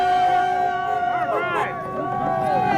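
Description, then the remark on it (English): A crowd at an Idle No More subsistence rally in Bethel, stopped at Watson's Corner and waving signs at passing traffic, makes continuous noise, with overlapping voices and rising and falling shouts over a steady, sustained tone, holding a fairly even loudness throughout. “People make a noise.”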